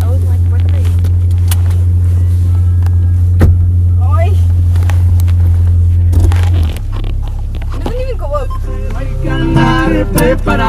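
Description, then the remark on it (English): A truck engine idles with a steady, loud low drone that drops to a deeper rumble partway through, while people talk over it. “I swear to God, my dad had a truck like this at some point.”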